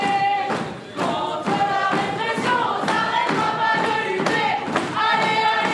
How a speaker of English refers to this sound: At the end of that student meeting, people are getting fired up, pounding on desks as they sing.